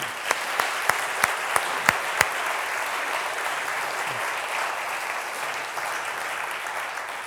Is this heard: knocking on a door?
no